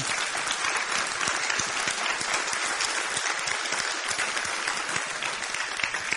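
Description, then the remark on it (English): A large audience applauds steadily, a dense, sustained wash of many hands clapping at once, fairly loud and even throughout with no voices standing out. “Yeah, you can clap.”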